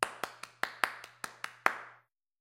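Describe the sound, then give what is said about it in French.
About nine sharp hand claps as a mother applauds at the end of a show, palms struck together in a quick, slightly uneven rhythm, fairly loud, each with a short bright decay, ending abruptly with silence after. “Quand le spectacle est terminé, maman applaudit. Elle frappe ensemble les paumes de ses mains.”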